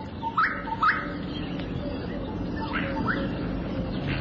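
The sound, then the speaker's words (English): A bird calling from a thorn tree gives clear, rising whistled notes in a quick pair, then repeats the pair more softly a couple of seconds later over a steady low background rumble. “A gorgeous bush fight calls from a thorn tree.”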